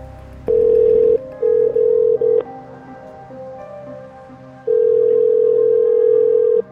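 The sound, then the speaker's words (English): An outgoing phone call's ringing tone: steady, loud electronic buzzes repeat in bursts, a short double pattern early on, then a long ring after a pause, with no voices. “gives me her phone number. So I call her.”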